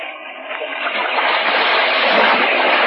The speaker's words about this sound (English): Oh, golly. That river's too strong